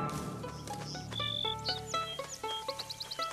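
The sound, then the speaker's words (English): Birds soaring overhead chirp in a busy, overlapping chorus of short, high calls, ending in a quick rhythmic run of repeated tweets, over a low steady hum in the background. “Birds soar over Latte.”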